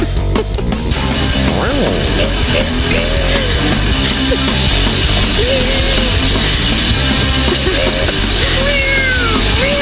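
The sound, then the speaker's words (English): Recorded cat meows played from an app: several short rising-and-falling cries repeated irregularly over a dense, steady background noise, fairly loud, with no clear talking. “Although, those two recordings of cats on the app, they flip over.”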